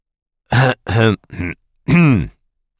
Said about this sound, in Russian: Откашлялся он и пошевелил кожей на лбу.